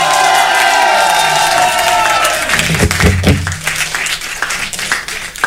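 A concert crowd bursts into loud, sustained applause and cheering, with dense clapping and scattered whoops filling the space as the music's final chord fades beneath.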